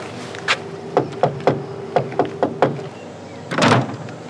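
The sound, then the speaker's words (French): Someone knocks on the door of Les bas Sully, a stocking business in Sumène, about eight times in short, uneven groups of sharp raps, followed by a louder, longer rattling thud as the door moves. No one speaks. “Tu crois qu'on frappe à la porte, là ?”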